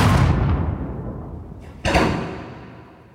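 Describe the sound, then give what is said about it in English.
A single sharp gunshot, a bullet fired into the back of a man's head, cracks out partway through, loud, its echo rolling away slowly. Before it, an earlier heavy boom fades out. No one speaks. “A bullet is put in the back of the brain of Jesse James.”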